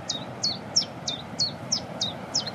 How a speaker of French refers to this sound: Puis la bouscarde qui chante derrière nous, en plus. Ça, c'est sympa. Ça, c'est un des oiseaux les plus faciles à reconnaître au niveau chant. C'est deux notes. Voilà.